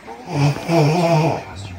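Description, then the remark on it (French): A loud snoring sound, one long rumbling voiced breath lasting more than a second, apparently a person imitating a snore with their voice. “Attends, on va essayer de la faire ronfler avec moi pareil.”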